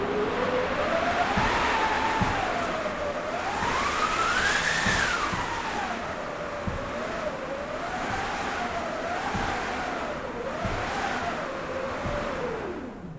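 A theatre storm effect machine from the late 1800s, with a piece of canvas stretched over many slats and turned slowly, whooshes out a continuous howling wind. Its pitch swells up and sinks back in slow waves over a steady rushing noise, with no one speaking.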